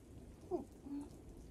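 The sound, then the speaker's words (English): Steady rain patters and hisses at a low, even level, with a faint low rumble beneath that suggests distant thunder during a rainstorm; no voices. “The storm is too loud, and I can't stop thinking about what's going on outside.”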